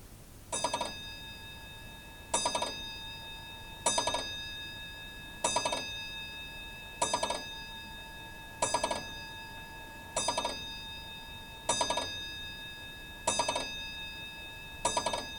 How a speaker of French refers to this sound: À un moment où il croyait que le jour allait se lever, il entendit la pendule sonner 10h.